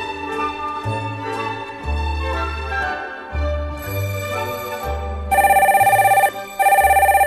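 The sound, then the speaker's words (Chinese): A telephone rings loudly in two bright, buzzy bursts as someone calls to complain, cutting in after a few seconds of light background music with a bouncing bass line. No one speaks. “这时候晶晶正好打电话来诉苦：”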